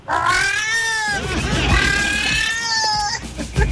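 A female cat in heat caterwauls in two long, drawn-out yowls that rise and waver, loud, with a brief break between them and no other sounds around.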